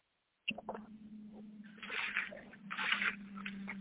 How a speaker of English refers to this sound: We hear you shuffling.